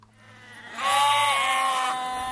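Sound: sheep bleating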